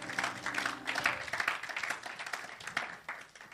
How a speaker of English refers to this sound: Clap for the Lord Jesus Christ.